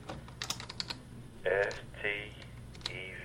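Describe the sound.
Quick bursts of typing on a computer keyboard in an office a couple of floors below a hospital room, as a program manager talks a patient through Medicaid enrollment: a series of sharp clicks in uneven rhythm, fairly quiet, with brief faint voice-like sounds in between against a low background hum.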